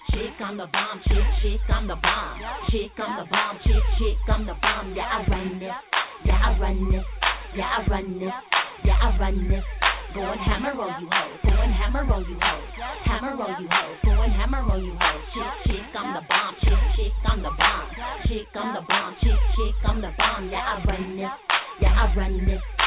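A hip-hop track plays with a booming, sustained bass and sharp clap-like hits landing on a steady, repeating beat, sounding loud but slightly muffled, with no vocals.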